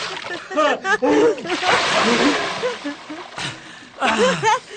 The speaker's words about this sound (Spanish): Poquito de agua. Échamela encima